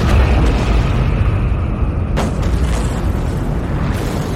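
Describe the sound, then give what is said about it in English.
Thermonuclear explosives on drones detonate among ships: a massive explosion roars throughout, a deep, loud rumble that never lets up, with a sharper blast cracking through about halfway. No voices. “In a moment that was equal parts rage and meditation, I detonated each drone's thermonuclear explosive.”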